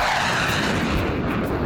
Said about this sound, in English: It's a jet!